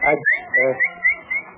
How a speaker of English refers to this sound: what's that whistling? Huh? Oh, hello, Pop. Yeah, what's the idea? One week you've been whistling like you was calling a dog.